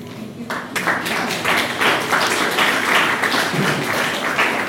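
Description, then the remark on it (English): A crowd applauds itself steadily, a dense wash of many hands clapping at a fairly loud, even level throughout, with no voices standing out. “Remember, you're applauding yourselves.”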